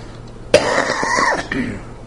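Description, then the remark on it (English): A sharp cough bursts out from a man despite a cough drop, followed by a rough, rattling throat clearing that lasts about a second, with a brief grunt trailing off afterward. “This cough drop is doing nothing for me.”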